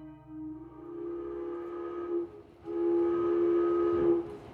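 An Ohio and Mississippi Railroad train pulls away from Seymour, Indiana, on a late evening in early October 1866, its whistle sounding in two long, loud blasts over a low rumble of the engine and rolling cars.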